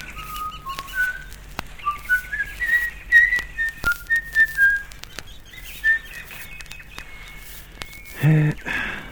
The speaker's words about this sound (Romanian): Data aceasta nu vei auzi decât fluieratul meu.